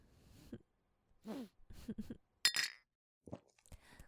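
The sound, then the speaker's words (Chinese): A single bright clink of glasses touching in a toast, ringing briefly near the middle, fairly loud, with short bits of voices talking before and after it. “好啊好啊，干杯。”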